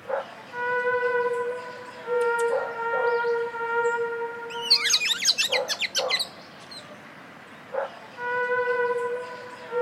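bird, birds chirping

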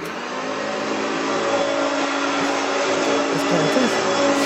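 household object, vacuum cleaner running

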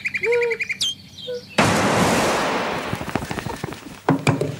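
bird, nightingale song

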